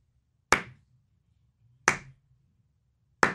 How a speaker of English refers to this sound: Doing a slow clap. I didn't feel like accelerating it.